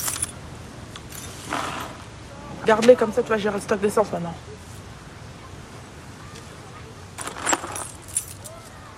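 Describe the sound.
A bunch of keys jingles in a short, bright metallic burst as it is handed over, close to the microphone, with a person speaking briefly before and after against low background rumble.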